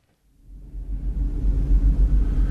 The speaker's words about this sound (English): It's 12 o'clock at night on a ferry boat crossing the Aegean Sea, engines throbbing deeply through the walls and floors.